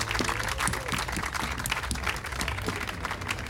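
An audience applauds steadily and loudly for the whole team behind the stage, a dense wash of many hands clapping at once with sharp transient bursts, sustained without pause across the whole stretch.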